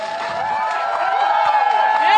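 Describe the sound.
A large crowd at a press conference cheers and calls out together for a woman who lost, a dense, steady roar of many voices that grows a little louder toward the end.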